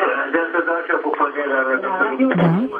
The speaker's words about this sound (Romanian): Închideți radio-ul, vă rog frumos, ca să ne auzim la telefon doar.